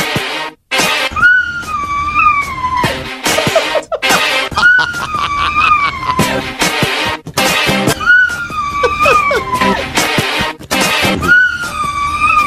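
A dog whines in high, wavering tones that rise and fall in pitch, its cries following the melody of a steady, beat-driven pop song playing underneath.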